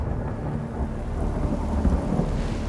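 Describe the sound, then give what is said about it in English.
A thunderstorm rages with deep, rolling thunder rumbling continuously beneath steady, heavy rainfall, loud with no voices present. “Raising great storms across the planet.”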